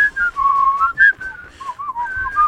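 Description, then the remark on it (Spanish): A person wearing a mask whistles a short melodic tune through it, the pitch gliding and hopping between notes in a steady rhythm, with faint breathy noise around the tones and no one talking. “Bueno, es que no se puede chiflar con máscara. Acabo de mostrar que sí se puede, pero tengo que movérmela toda.”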